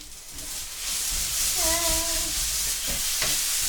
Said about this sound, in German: Und das brutzelt weiter.